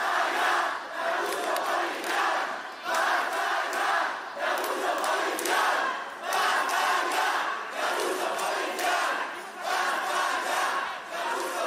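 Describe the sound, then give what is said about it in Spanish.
A large protest crowd in the centre of Valencia, Spain, where people are gathering and some are clashing with National Police officers, shouts and chants loudly and continuously, the roar surging in rhythmic waves every second or two, with no single voice standing out. “Este es el sonido ambiente del lugar en el que se empieza ya a manifestar la gente o a concentrar y algunos a enfrentarse con agentes de la Policía Nacional.”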